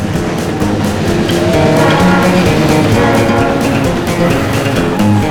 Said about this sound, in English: a train comes trundling out of the trees onto the low bridge over the water.